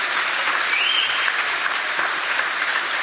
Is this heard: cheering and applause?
yes